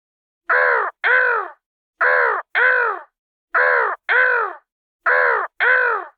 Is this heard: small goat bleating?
no